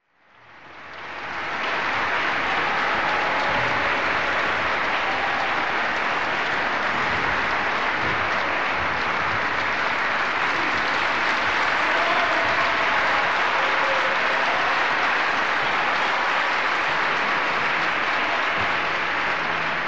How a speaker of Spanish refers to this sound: La música, poder unir a un grande y a una persona que se estaba construyendo y juntarnos así ahí y estar a un nivel que, bueno, no olvidaré más esos aplausos que se caía el Teatro Avenida.